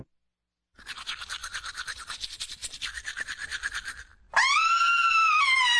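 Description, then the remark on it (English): Several seconds of rhythmic, scratchy toothbrush scrubbing, then a short pause and a loud, sustained high-pitched scream from a woman who sees pink in her sink after brushing her teeth; the scream holds steady to the end. “You just heard someone seeing pink in her sink after brushing. She's screaming because she knows bleeding gums can mean gingivitis, and that can lead to tooth loss, gum surgery, and worse.”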